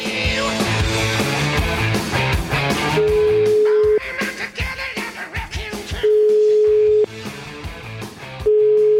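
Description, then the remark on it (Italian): A telephone ringback tone sounds while a call to a senator in Puglia connects, steady one-second beeps repeating every few seconds over busy background music, clear and fairly loud. “Lo voglio beccare, so che è in Puglia in questo momento. Rispondi al telefono, Francesco.”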